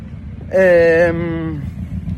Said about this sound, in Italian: Quindi c'è più rumore, ora è passata pure, ecco, vedete sta cazzo di moto.